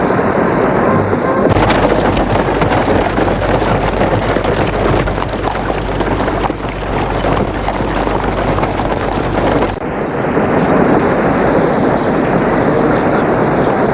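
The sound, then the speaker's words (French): Heavy rain pours down in front of a château entrance as a horse-drawn carriage arrives, in a dense, continuous roar that swells louder through the middle stretch, with a low rumbling undertone and no voices. “Le jeudi, lorsque la calèche qui amène Lucie au château arrive devant l'entrée, il pleut à verse.”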